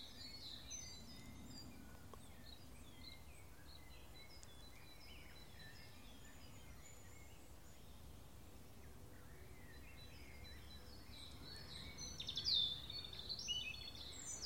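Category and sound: bird, european robin singing nearby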